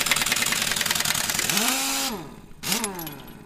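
A truck used for a waste removal business, being worked on in a driveway in Robeson County, chugs at a rough idle, then revs up and drops back down twice, its throaty pitch swelling and falling over a steady mechanical clatter. No one speaks.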